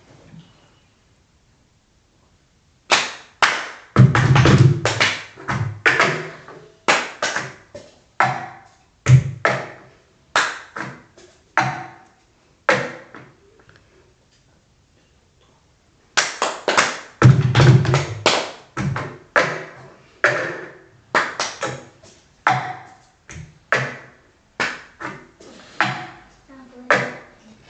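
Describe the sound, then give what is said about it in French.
A cup song rhythm: cups tapped and thumped on a table in a sharp pattern of claps, slaps and knocks, repeated in two rounds with a short pause between, lively and fairly loud, no talking. “Alors, c'est les cup songs, ça veut dire la chanson des Verts”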